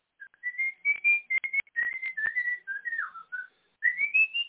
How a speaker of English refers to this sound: Somebody whistle.